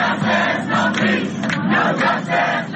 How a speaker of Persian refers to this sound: تظاهرات در شهرهای گوناگون پراکنده و با گروه‌های چند صد نفری و یا حتی چند ده نفری انجام می‌شود، ولی پورتلند اورگان شاهد تظاهرات چندین هزار نفری بود که شعار می‌دادند ترامپ رئیس جمهوری ما نیست.